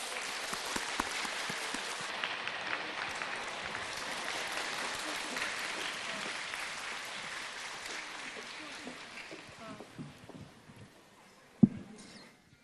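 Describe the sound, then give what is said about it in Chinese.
Sustained, warm audience applause inviting Master Lu (卢台长) to do a totem reading: a dense patter of many hands clapping that holds steady for about ten seconds, then thins and dies away, followed by a single sharp thump. “现在，让我们用热烈的掌声，恭请尊敬的卢台长为我们慈悲看图腾。”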